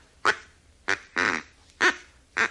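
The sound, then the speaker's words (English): A duck call, ordered by mail from St. Louis, is blown: five loud, nasal, buzzy quacks in an uneven rhythm, the third drawn out longer than the others, with no voices. “Oh, this is a duck call.”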